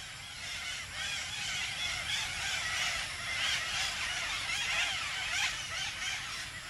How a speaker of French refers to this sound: Et puis derrière, il y a le village qui commence avec donc les premiers mangliers et donc les nuées d'oiseaux vont passer au-dessus des micros.